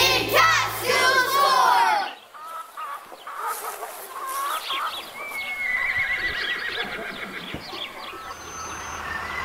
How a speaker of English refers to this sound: We walked past the sensory garden, the polytunnels, and of course I can't forget... the chickens!